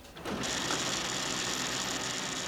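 A printer runs steadily, its continuous mechanical whir and rattle starting abruptly and holding at an even level as pages of a bond prospectus feed through, with no voices.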